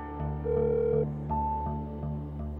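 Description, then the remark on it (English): A phone line rings out on an outgoing call, a steady electronic ringback tone sounding in short bursts over a low, droning hum, with no voices. “I make the call, but the person who picks up the phone, unexpectedly, is not Ken Daphne, but one of his and Terry's children, a son.”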